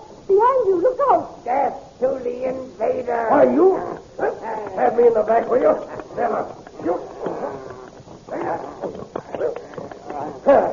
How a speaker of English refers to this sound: Back, will you? My dog!